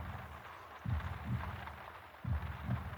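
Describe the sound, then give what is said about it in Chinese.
A muffled heartbeat thumps in steady lub-dub pairs, two full beats over a soft low rumble, with no voices present. “因为一听到你的心跳声，我就觉得好安心，好安心。”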